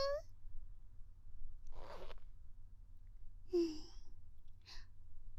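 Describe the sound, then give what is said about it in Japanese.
A zipper on clothing rasps open in a couple of short, close bursts, with soft breathy vocal sounds before and between them over a faint low hum. “うわ、チャック開けたら”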